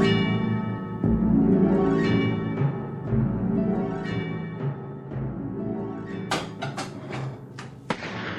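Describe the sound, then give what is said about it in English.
A truck engine rumbles steadily, then a few sharp cracks break through near the end, capped by one loud, abrupt backfire bang. “Truck backfired.”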